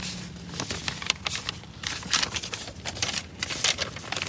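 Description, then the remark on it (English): Sheets of paper from a medical diagnostic report rustle and crinkle continuously, with crisp irregular bursts of shuffling, fairly quiet overall and with no talking. “Got a lot of paper here.”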